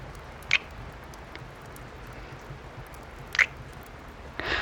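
Heavy rain pouring down as a steady, even hiss, broken by three brief high squeaky bursts, with no voices.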